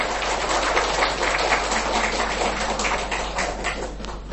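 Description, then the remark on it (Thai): A crowd applauds steadily, a dense wash of many hands clapping at once that holds an even loudness for the full four seconds, with no voices. “You may applaud as much as you want ปรบมือดังๆมากๆอย่างที่ลูกต้องการได้เลย”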